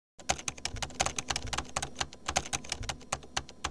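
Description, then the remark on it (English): Rapid, uneven clicking of keys on a computer keyboard, fairly crisp, with bursts of taps continuing steadily for a few seconds and no talking. “don't touch the keyboard.”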